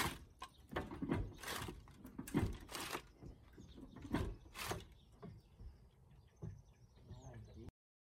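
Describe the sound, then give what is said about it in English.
A roof that a man is moving scrapes and rattles, shifting a lot, in a series of sharp, uneven bursts with clanking and sliding noises; muffled voices are faintly present underneath. “For people listening, he's moving his roof, and the roof is moving quite a lot, which don't look healthy.”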